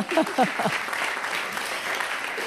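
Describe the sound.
An audience applauds steadily at an event of the Wertvolle Kinder series with the Vorarlberger Kinderdorf, a dense wash of clapping that carries through the whole clip, with a brief voice audible over it at the start.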